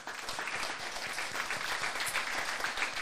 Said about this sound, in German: Einen großen Applaus an die Netzpiloten.